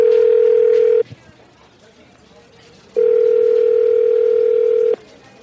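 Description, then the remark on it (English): A phone line rings as a call is placed to an interview guest: a steady electronic ringback tone sounds, pauses for about two seconds, then rings again for a second burst, fairly loud and clear. “Let's go ahead and get him on the phone right now.”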